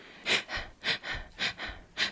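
A child's short, shallow breaths come quickly and close by, about two per second in a steady rhythm, each a soft airy puff with a slight wheezy edge. No one speaks.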